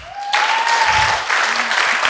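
A burst of applause breaks out and holds steady, dense clapping filling the moment, with a faint high tone sliding through the start and a brief murmur of voices underneath.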